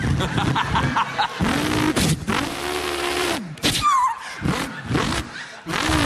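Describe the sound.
A voice mimics a V8 drag racer engine with loud, rasping bursts of revving, a sustained low rumbling drone in the middle, then sharp throttle-blip pops and a final roaring rev.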